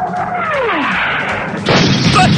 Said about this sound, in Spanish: ¡Estrelló la cerveza en el carro! ¡Chale, güey!